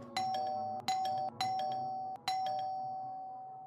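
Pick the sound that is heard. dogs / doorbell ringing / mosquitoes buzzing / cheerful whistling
doorbell ringing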